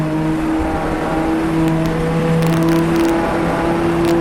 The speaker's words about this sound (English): Just listening to the low hum of that diesel as we go down towards Indianapolis here.